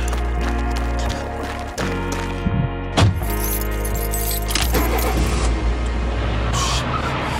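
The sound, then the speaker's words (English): Keys jangle and clink in irregular bursts over the steady, heavy rumble of a car engine running throughout. “Fucking car.”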